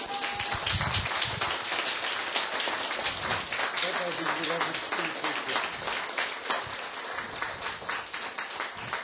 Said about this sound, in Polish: I tu miałem zaplanowane oklaski.